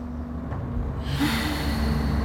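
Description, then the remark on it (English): A deep, drawn-out inhale through the nose for a count of four, synchronised breathing while lying beside another person, starting quietly and swelling into a steady, airy rush of breath, with no talking. “OK, synchronised breathing. And through the nose for four.”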